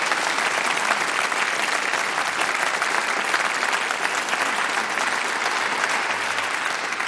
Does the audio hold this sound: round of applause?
yes